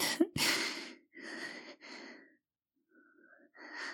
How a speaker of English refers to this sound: I'm not breathing weird. I'm out of breath. From running up the stairs when I heard my phone ring.